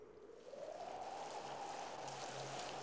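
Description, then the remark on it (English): Steady, dense patter of rain falling continuously, a soft hissing wash of water that swells slightly after the first half second and holds even, with no voices. “the patter of rain.”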